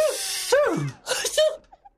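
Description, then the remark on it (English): Two loud sneezes in quick succession, each a sharp breathy burst with a voiced edge, followed by a brief faint sniff, caused by too much pepper in soup being cooked in the Duchess's kitchen. “With all this pepper, everybody is sneezing.”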